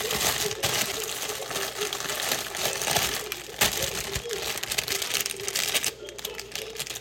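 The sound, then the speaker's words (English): Continuous crinkling and rustling of a cream carbonara instant noodle pack being torn open and handled, with scattered clicks and light rattles as the noodles are dropped into a pan of boiling water, over a steady background hiss. “My water is boiling, so I'm gonna open this pack and put it in.”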